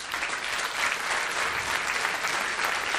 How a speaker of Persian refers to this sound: من سوالشو بخوام با خود حضرت عالی چک کنم، این بود که شما آفرین تشویقش کنید.